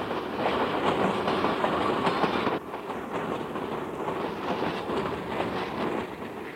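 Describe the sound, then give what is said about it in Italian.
A train rolls steadily along the rails down the Adige valley in Italy, a dense, continuous rumble and rattle with wheel clatter throughout and a brief dip in loudness partway through. No voices. “Il treno scendeva la valle dell'Adige.”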